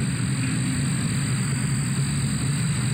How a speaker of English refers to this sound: It ended up being cicadas. Here's a quick sample of what cicadas sound like, along with some residents talking about the noise